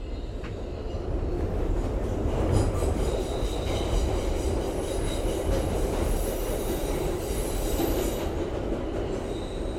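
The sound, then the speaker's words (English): A subway train rumbles steadily along the rails, loud, with a constant low roar, faint high wheel squeals and rattling carriages, and no one talking. “I had to be at work religiously at 8:30, which meant I left the Bronx around 7 o'clock, hoping that train wouldn't stall or there would be no problems with the train because I will feel the brunt of it when I went to work.”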